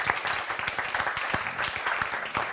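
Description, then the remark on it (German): An audience applauds steadily, many hands clapping in a dense, even patter with sharp individual claps poking through, welcoming panel guest Dr. Bergold-Caldwell. No one speaks over it. “Ein kleiner Applaus vielleicht schon mal für Frau Bergold-Caldwell.”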